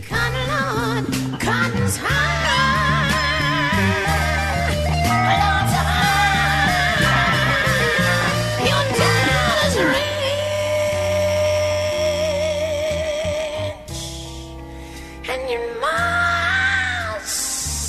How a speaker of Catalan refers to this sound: Sí, perquè quan s'hi posa amb aquell crit és carn de gallina. Brutal, és brutal. Gallina piel. Gallina piel.